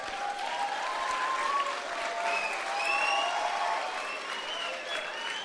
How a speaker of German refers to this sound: Und das Problem wird sein, für diejenigen, die jetzt geklatscht haben, du wirst irgendwann an einer Arbeitsstelle stehen, wo du sagst, oh Mann, hätte ich mir damals bloß nicht geklatscht, sondern hätte es lieber gelernt.